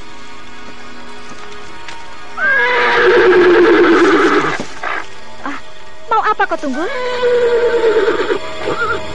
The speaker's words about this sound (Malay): Si Tunggul tetap saja meringkik-ringkik dan sesekali mengangkat kakinya tinggi-tinggi.